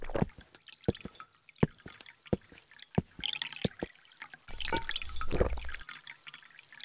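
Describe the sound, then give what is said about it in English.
Water trickles and drips in irregular plinks, then swells briefly into a fuller running stream for about a second before easing off. No voices are heard. “Yes, water. Come on. You might not need water, but you could use some.”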